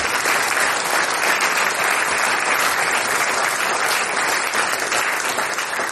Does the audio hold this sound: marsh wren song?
no